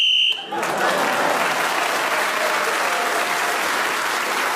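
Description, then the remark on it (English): A short, shrill whistle blast in a panel game, blown while Paul Merton is speaking to end his turn, is quickly swallowed by loud, steady applause that carries on to the end. “Paul Merton was then speaking as the whistle went.”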